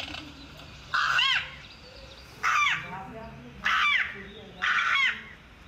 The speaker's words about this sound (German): Auf seinem Smartphone spielt Karl Rusche mir den kratzbürstigen Gesang der Saatkrähe vor. Krähen gehören zur Ordnung der Singvögel. Sie singen eben auf ihre Art.